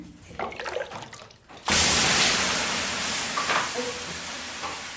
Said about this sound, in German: Und dann zischt und dampft es aus dem großen, heißen Saunaofen. Am Klang des Aufgusses kann man angeblich seine Qualität hören.